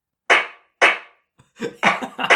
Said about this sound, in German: Genau dieser Applaus, den hätte ich dir jetzt auch gegeben.